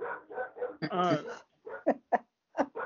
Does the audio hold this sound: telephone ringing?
no